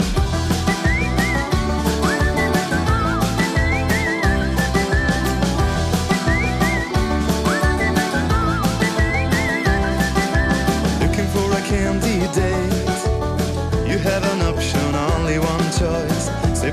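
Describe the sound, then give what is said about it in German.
A bright whistled melody rides on top of an upbeat pop track with a steady driving beat and full band backing, loud throughout, with no singing or talking; a song performed with whistling for Switzerland at the 2014 Eurovision Song Contest. “startet über die Sendung gerade mit einem, der mit Pfeifen die Schweiz vertreten hat am Eurovision Song Contest im 14.”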